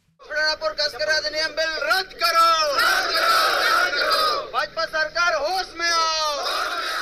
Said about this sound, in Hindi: Police की जोरदार घेराबंदी के बाद भी आदिवासी बहुल इलाकों में ये नारे सुबह से ही गूंजने लगे थे।